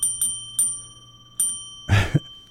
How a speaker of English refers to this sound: I just want to ring the bell. Yeah, we'll ring it twice